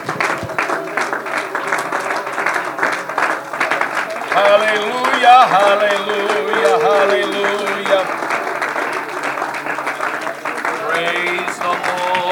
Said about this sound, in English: Why don't you just clap your hands and magnify the Lord today?